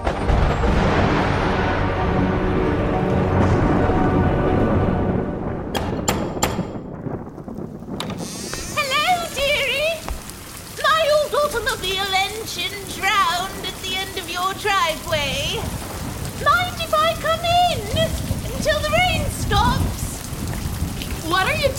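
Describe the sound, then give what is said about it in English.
A thunderstorm: heavy, steady rain with a deep rumble of thunder at the start, then voices talking over the continuing downpour. “But on the night of Bastian's third birthday, during the worst thunderstorm in over 100 years, everything changed.”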